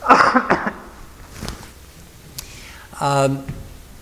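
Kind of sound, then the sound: human body sound, cough away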